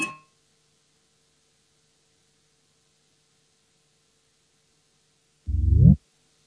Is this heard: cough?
no